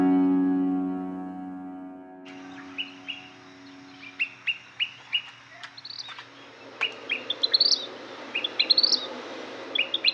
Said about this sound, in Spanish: Mosquero cardenalito, petirrojo o pitirrín, de nombre científico Pyrocephalus rubinus, del orden Passeriformes y de la familia Tiránide.